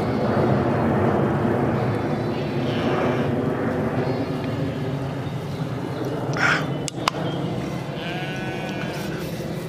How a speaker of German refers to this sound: Mann, ist er schon wieder laut über mir. Flugzeug